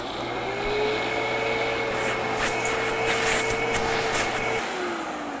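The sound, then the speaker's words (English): A car engine drones steadily in a traffic jam amid the wash of surrounding traffic noise, a low hum with a faint whine above it, holding even for several seconds before cutting off near the end. “Look at this traffic jam. We'll never get there on time.”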